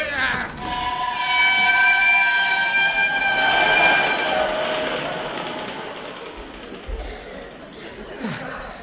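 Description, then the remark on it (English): A train pulls away on the Yorkshire moors in pitch dark, a high whining tone sliding downward over a broad steady rumble, the noise gradually thinning and fading as it recedes. “I was just about to run after the train”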